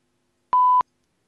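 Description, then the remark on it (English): A single short electronic beep, a steady pure tone lasting about a third of a second, loud and clean with abrupt clicks at its start and end, surrounded by silence. “Beep.”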